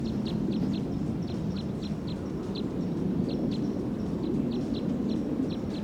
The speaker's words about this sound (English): Recording the wild bird from about 40 meters away on filter 3.